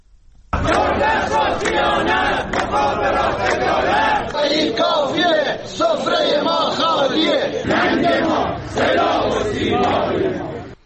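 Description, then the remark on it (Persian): Retirees of the telecommunications company chant loudly and steadily at a weekly Monday protest gathering in front of telecom offices in cities including Isfahan, Tehran, Tabriz, Rasht, Sanandaj, Ahvaz, Hamedan and Shiraz, many voices shouting together in repeated rhythmic phrases that rise and fall with brief pauses between them. “گروه‌های از بازنشستگان شرکت مخابرات در ادامه تجمعات هفتگی خود روز دوشنبه دیروز در برابر اداره‌های مخابرات در شهرهای مختلف از جمله اصفهان، تهران، تبریز، رشت، سنندج، اهواز، همدان و شیراز تجمع اعتراضی برگزار کردند.”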